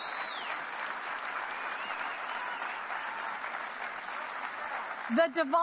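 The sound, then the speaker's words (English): An audience claps steadily and densely for several seconds, with a whistle near the start and cheers mixed in, before a voice cuts in at the very end. “Clap, maggots, clap! Cheer! Whistle!”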